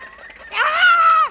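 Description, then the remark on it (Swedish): A single loud, drawn-out squawking call like the cackle hens in a henhouse make before laying an egg, apparently a voice imitating the bird, rising abruptly after a quiet murmur and dropping off at the end. “Så där gör hönorna ute i hönshuset också när de ska till.”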